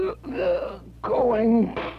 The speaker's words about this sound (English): The case of a gasping auctioneer.